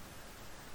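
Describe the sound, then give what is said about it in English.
A steady, soft hiss of rain falling on the ground, broad and even with no individual drops standing out, continuing quietly without any voices. “Now, listen to the rain.”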